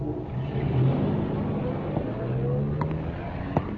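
A car pulls up to a house, its engine a steady low rumble with a droning hum that shifts slightly in pitch, followed by a couple of brief sharp clicks near the end.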